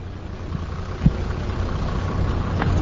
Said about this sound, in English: In a car park, which could be in any city or suburb, I spoke to four-wheel drive owners about their vehicles. These two motorists pulled up in their turbo-diesel Toyota Land Cruiser.